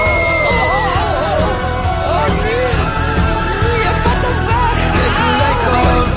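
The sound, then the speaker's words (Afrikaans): A monster with dead ears, dead skin and an unkempt look comes out of a box and screams loudly and continuously for several seconds, its wavering, bellowing cries layered over a dense, noisy roar like a shouting crowd, with no quiet breaks. “En daar kom een monster uit. Met dooie oor, een dooie vel en een onverzorgde voorkom. En hy gil.”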